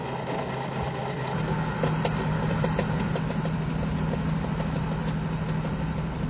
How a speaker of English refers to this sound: Oh, there's my bus.